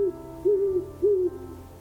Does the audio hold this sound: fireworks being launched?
no